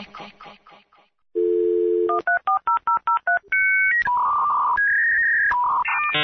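A brief voice opens, then a steady dial tone, a quick run of about eight touch-tone digits, and loud dial-up modem handshake tones that squeal and jump between pitches.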